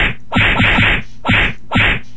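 A rapid flurry of punching whacks, about five loud thumping hits in two quick bursts, with no voices over them.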